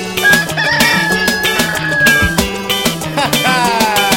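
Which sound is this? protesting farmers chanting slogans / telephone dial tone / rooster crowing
rooster crowing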